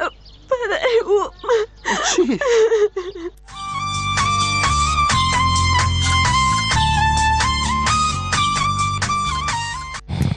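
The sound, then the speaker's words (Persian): A girl cries and whimpers in wavering sobs for about three seconds in a radio drama, before steady music abruptly takes over and fills the rest. “تو خو گریه میکنی، چی گپ است؟”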